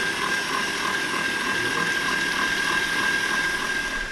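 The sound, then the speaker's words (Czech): A stand mixer with a balloon whisk whisks three eggs with caster sugar at top speed for a sponge cake, a loud, steady motorized whir with a high tonal whine and a fast, even churning rhythm, running continuously with no talking. “Vezmeme si balónovou metlu do robota na nejvyšší otáčky a pak 10-15 minut, ať se nám to šlehá.”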